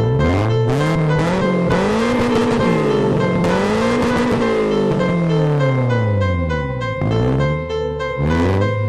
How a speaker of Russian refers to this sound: В ритм музыки ревет мотор, мелькают пешеходы, оседают капли от тумана на карбоне.